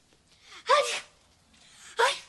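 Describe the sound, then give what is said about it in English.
Two loud sneezes in quick succession, each launched by a sharp breathy inhale and bursting out in a harsh, explosive rush of air. “Bless you, ….”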